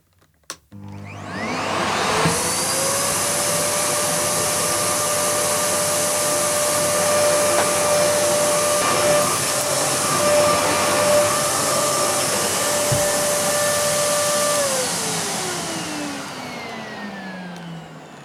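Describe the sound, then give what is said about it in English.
A Hoover vacuum cleaner blowing hot air: the motor whines up to speed, roars steadily and loudly for about twelve seconds, then powers off and winds down, with no talking. “You got a face full of hot air then. I got the Hoover huff, as I like to call it. We've got a Hoover.”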